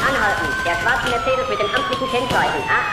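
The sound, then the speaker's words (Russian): Sirens of police cars following behind wail with a long, slowly falling tone, loud and steady across the whole stretch, layered over a dense, busy background with faint voice-like sounds. “Орут сирены, за нами едут полицаи.”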